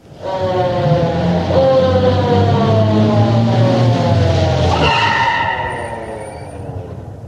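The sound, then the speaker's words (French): A police van engine roars as it pulls away, its pitch climbing, dropping at a gear change, then climbing again before fading. A tyre squeal rides over the loud engine, with no voices. “Alors, on met dans un fourgon, voiture de police.”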